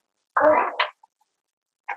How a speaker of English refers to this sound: It's probably my chair you're hearing.